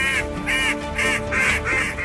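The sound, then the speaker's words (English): A duck call is blown hard and loud for duck hunting, a rapid string of five raspy quacks, each a short bright burst, insistent with no talking. “we got to blow our calls as hard as we can. We're competing with a lot of ducks.”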